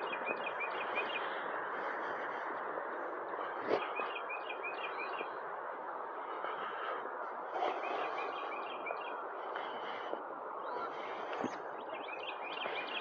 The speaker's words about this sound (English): Is that a woodpecker?